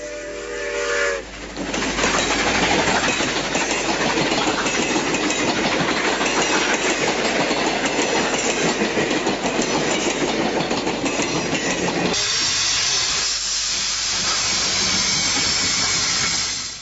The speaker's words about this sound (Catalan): I ara escoltarem la màquina de vapor en tota velocitat, però escoltant les rodes dels vagons de tren.